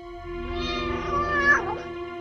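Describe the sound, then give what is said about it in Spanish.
A kitten in a plaza gives one long, drawn-out meow, clear, its pitch rising and then bending down near the end, with no other sounds around it. “Marita escuchó el maullido de un cachorrito.”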